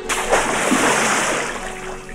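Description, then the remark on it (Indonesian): A loud splash of a child throwing itself into a river, followed by a couple of seconds of churning, sloshing water that slowly fades. No voices are heard. “Anak itu menceburkan dirinya ke sungai.”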